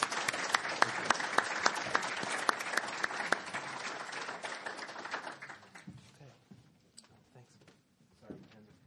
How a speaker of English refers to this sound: Can we give Chris a warm welcome? Applause.